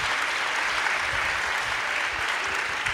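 Sustained audience applause, a dense, steady wash of many hands clapping at an even loudness throughout, with no voices standing out above it.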